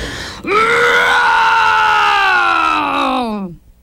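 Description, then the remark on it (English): A human voice imitates the papa bear's growl from the Goldilocks story: one loud, drawn-out groaning roar lasting about three seconds, sliding slowly downward in pitch before cutting off, heard alone. “The papa bear let out a low, rumbling growl that shook all three beds.”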